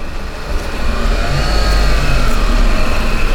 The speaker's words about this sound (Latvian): Pie slēgtajiem Tērbats ielas krustojumiem ik pa brīžam apgriežas automašīnas, dažs neapmierināti uzgāzē.